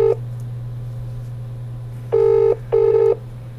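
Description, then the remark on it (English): A phone ringing tone heard down the line, a pair of short electronic buzzes repeating after a long pause, clear and steady over a low background hum, with no one picking up. “These ain't gonna answer the phone.”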